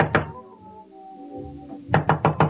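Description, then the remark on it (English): Someone raps on a door, a single thud first, then after a pause a quick, even burst of about five loud knocks. Low sustained tones hum faintly in between. “Go on, answer it. Who is it?”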